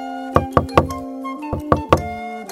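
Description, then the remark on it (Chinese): Fingers rap on an old woman's door in two sets of three quick, crisp knocks, with a short pause between sets, over a soft sustained musical tone. “丽丝用指头敲门，没有反应。”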